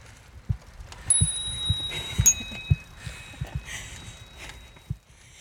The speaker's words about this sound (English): And sometimes we ring the bell. Ring the bell, the bike bell.